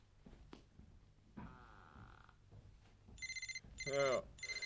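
After a stretch of muffled rustling and low background noise, a mobile phone starts ringing at 4 in the morning: bright, repeating electronic tone bursts in a steady pattern, fairly loud.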